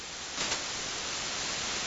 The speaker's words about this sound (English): Why do people want to hear signals instead of noise? That hiss is very pleasant and calming.